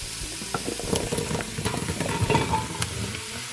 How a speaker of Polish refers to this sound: Na samym początku do naszego dość sporego garnka ląduje cebula z czosnkiem, które chwilę podsmażamy.